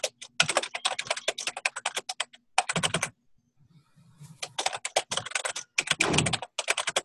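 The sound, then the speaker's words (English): Rapid clatter of keys on a computer keyboard, typed in quick bursts with short pauses between them, clear with no one speaking. “I'm not sure who's typing.”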